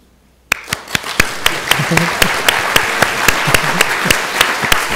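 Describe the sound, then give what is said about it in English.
A group claps in a steady, even rhythm, sharp claps roughly every quarter second over a bed of scattered applause, starting abruptly and holding a loud, constant level throughout. The clapping is done as a group exercise before chanting "sadhu". “So first of all, we do the clapping.”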